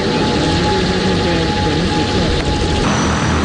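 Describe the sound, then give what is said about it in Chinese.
A V50P Great White Shark fixed-wing cargo drone takes off from a public drone take-off and landing site in Putuo District, Zhoushan, Zhejiang, China, with a loud, steady engine and propeller roar and a droning tonal hum, continuous for the whole stretch. “本月初，在位于浙江舟山普陀区无人机公共起降场，一架 V50P 大白鲨无人机腾空而起，经过40公里航程，历时21分钟，顺利降落普陀区东极镇野外起降点。”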